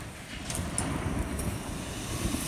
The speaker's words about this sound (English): And the echo you can hear on those is it rolling off the hills that are around the farm here. Hopefully the recording's picking that up too.